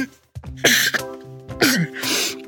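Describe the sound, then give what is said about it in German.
Two loud sneezes from a person with hay fever in a studio, each a sharp intake building to an explosive burst of breath, separated by about a second, with no talking in between. “Und obwohl es hier im Studio gar kein Heu gibt, niese ich die ganze Zeit herum.”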